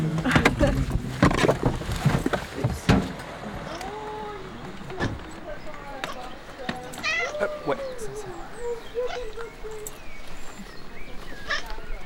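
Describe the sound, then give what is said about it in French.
A female cat meows several times in drawn-out, wavering cries as someone catches it, after a burst of clattering and thumping. A low murmur of voices and room noise continues underneath. “Il a attrapé le chat.”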